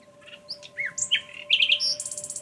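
birds singing

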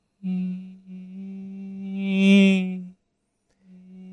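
mosquito buzzing

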